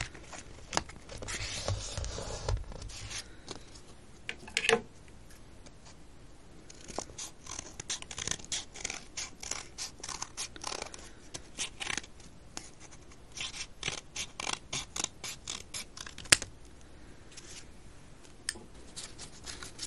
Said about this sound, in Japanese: 次に別の色の画用紙で大きめのハートを2枚同じサイズに切り抜きます。